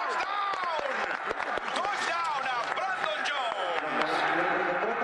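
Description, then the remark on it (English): A crowd cheers and shouts steadily in a Mexico City movie theater showing a Monday night NFL game on the big screen, cheering for Tennessee Titans wide receiver Brandon Jones, many voices rising and falling together, with scattered claps and whoops throughout, loud and unbroken for the whole stretch. “The cheering is for Brandon Jones, wide receiver for the Tennessee Titans.”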